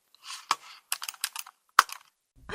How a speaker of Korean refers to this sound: 그러니까 마우스를 여기다 갖다 놓고 사진을 클릭해서.